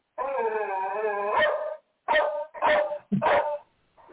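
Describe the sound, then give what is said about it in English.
A dog lets out a drawn-out, whining yowl, then fires off three short, sharp barks in quick succession, loud with no one speaking. “Shut up, dog.”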